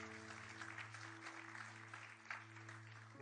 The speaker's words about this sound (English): Can we give them a round of applause for those who have made that decision?